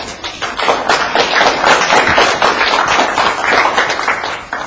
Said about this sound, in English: Thank you. Yeah. Give a clap. Yeah.